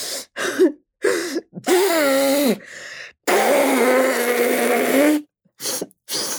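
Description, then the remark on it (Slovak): A voice imitates Pippi blowing her nose into her dress: a few short snorting bursts, then a long, loud, honking blow lasting a couple of seconds, ending with brief sniffs. Alone. “Keď boli vonku, Pipi sa vysmrkala do šiat a povedala.”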